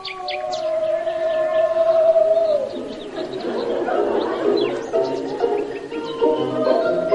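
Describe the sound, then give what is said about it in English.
A cuckoo calls with hollow, hooting notes: a long drawn-out tone at first, then shorter repeated calls against a noisy, busy background. No one speaks. “there's a cuckoo out there now.”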